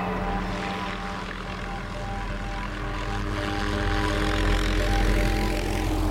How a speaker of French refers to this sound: Son fils l'y attend avec un hélicoptère, direction Monaco.